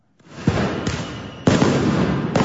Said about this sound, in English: just a warning, this story starts with the sounds of fireworks.